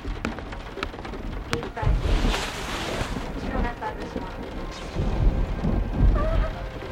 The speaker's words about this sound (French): Ah, je te jure, des orages comme ça, ça me fout un de ces bourdons.